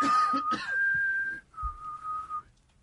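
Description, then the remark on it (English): A person whistles two sustained, steady tones, the first higher pitch rising slightly, a brief break, then a lower held note, with faint background noise and no talking. “Why are you whistling?”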